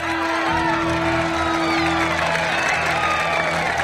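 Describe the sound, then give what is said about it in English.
A large crowd at a golf course cheers and whoops loudly and continuously, a dense wall of excited voices with scattered shouts rising above the roar, as a golfer raises his arm in victory after retrieving the ball from a water hazard. “The crowd watches as Happy reaches underwater and brings back the ball. He raises his arm in victory.”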